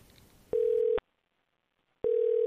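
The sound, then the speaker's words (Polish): A telephone ringback tone sounds twice, each a steady half-second electronic hum separated by a second of silence, clear, with faint background noise before the first tone and no voices, during a call to a son that goes unanswered. “I nawet jak zadzwonię teraz, to pewnie nie odbierze.”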